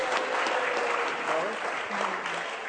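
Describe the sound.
An audience applauds with dense, steady clapping that fills the whole stretch at an even, fairly loud level, while a voice or two can be faintly heard underneath.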